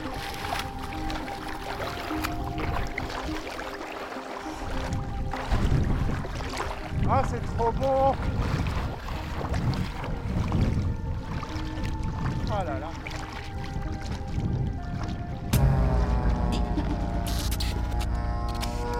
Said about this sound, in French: c'est avec cette baignade dans une eau de Loire déjà trop chaude pour la saison, alors que nous ne sommes qu'au début de l'été